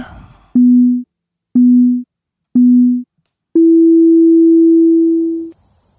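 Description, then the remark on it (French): A small gong-style signal marks the start of a candidate's turn: three short, steady low tones spaced evenly about a second apart, then one longer, slightly higher tone held for two seconds, loud and clean. “Il y a un petit gong et juste après, c'est à toi de te lancer”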